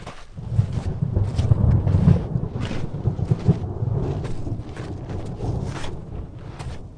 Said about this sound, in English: It rained last night, but the southwestern sun has baked the ground. It's arid again. Thunder rolls vaguely in the Sangre de Cristo Mountains behind us, New Mexico style. No clouds or lightning visible.